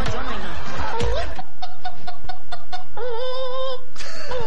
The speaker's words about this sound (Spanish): Una gallina, weón. Oye, pero la gallina, ¿qué onda, loco?